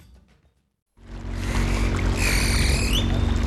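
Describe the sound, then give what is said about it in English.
After a second of near silence, chef Eduardo Garcia's boat moving on water to the fields of Mexico City on a Sunday morning comes in loud: a steady low engine drone under rushing, splashing water, with a thin high whine drifting above. “It's Sunday morning, time for Eduardo Garcia's therapeutic ritual, taking a boat to the fields of Mexico City to pick food for his restaurants.”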